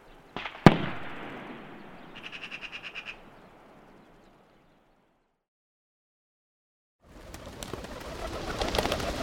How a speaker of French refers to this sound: D'autres façons de chasser ont pour objectif des petits gibiers comme des lièvres, des perdrix, des tourterelles et des pigeons ramiers comme cette volée dans le ciel de ce bois.